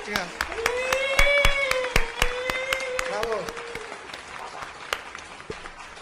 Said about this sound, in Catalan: Aplaudiment, sisplau.